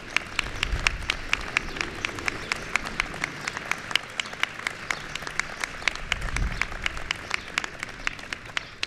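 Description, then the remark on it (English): An audience applauds the challenge winners of the Joining Forces initiative steadily for several seconds, with many sharp claps overlapping into a dense, even patter of moderate loudness and no voices on top. “So please, let's give a round of applause for all the challenge winners who are here with us today.”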